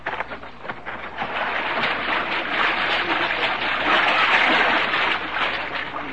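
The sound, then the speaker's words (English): Water splashing and churning continuously for several seconds, a steady, fairly loud rush with no clear pauses and no voices. “Let's get that poor old cat out of that water.”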